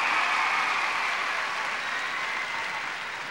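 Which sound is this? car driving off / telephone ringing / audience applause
audience applause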